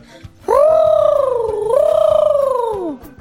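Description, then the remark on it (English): The character Mowgli, a man cub, imitates a bird call with one sustained, warbling hoot lasting a few seconds, its pitch sagging, jumping up midway, then sliding down to stop. Loud and alone, no talking. “Show her what you can do with the bird call, Mowgli.”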